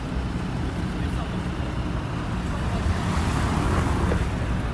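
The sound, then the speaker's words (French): A steady, low rumbling wash of road traffic, cars moving by continuously without distinct individual passes, with some wind-like noise and what may be faint voices underneath. “Je vois le mouvement des voitures, hein, tu vois.”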